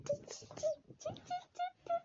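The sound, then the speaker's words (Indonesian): A voice imitates a crying baby bird with a quick series of about six short, high, whiny cheeps, repeated in an uneven rhythm at moderate volume. “Ini anak burungnya nangis.”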